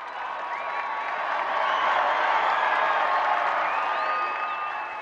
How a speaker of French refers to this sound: En ces temps de tourmente, les fidèles semblent avoir voulu plus nombreux que jamais exprimer leur attachement au pape. En témoignent les cris d'enthousiasme qu'il accueille quand il apparaît au balcon de la loggia centrale.